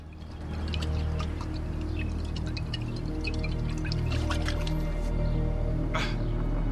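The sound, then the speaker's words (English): By the bins in a side alley, a man unscrews a bottle cap and pours most of the whiskey down his throat: liquid pours steadily for several seconds, with wet glugging and dripping sounds over a low, constant background rumble. “Stopping by the bins, he unscrews the bottle cap and proceeds to pour most of the whiskey down his throat.”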